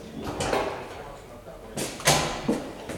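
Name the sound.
door being opened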